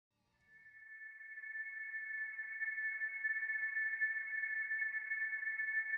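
A progressive rock song intro from a 2015 debut album opens with a single high, steady synth tone that fades in from silence over the first second and then holds, bright and unwavering, with no drums or voice.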